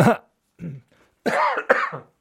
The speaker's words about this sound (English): Right, next, before I cough my guts up.